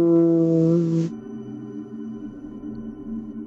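A meditation chime rings with a deep, steady tone, strong for about a second before easing into a softer, lingering hum that sustains to the end, with no talking.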